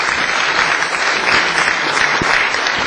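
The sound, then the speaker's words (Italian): Steady applause from an assembly approving the mayor of Capo di Ponte, Valle Camonica, as its coordinator, a dense, even patter of many hands clapping at a constant loud level throughout, with no voices breaking through. “ovviamente in via temporanea la mia proposta è quello di nominare come coordinatore di questa assemblea il sindaco di Capo di Ponte, Valle Camonica, ovviamente quindi con un applauso che determina questo primo momento.”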